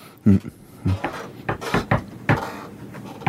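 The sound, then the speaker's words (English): A patterned series of sharp knocks on a hard wooden surface, about eight raps in an uneven rhythm, fairly loud with brief pauses between groups. “do you have a knock?”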